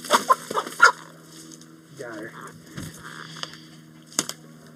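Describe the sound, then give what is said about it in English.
A large Brahma chicken with elaborately patterned brown and white feathers, being photographed at a photo shoot, clucks in a series of short, irregular bursts, with a few sharper calls near the start and end over a low steady background hum. “And the rest of us begin with the second bird, a bird called a Brahma, with elaborately patterned brown and white feathers.”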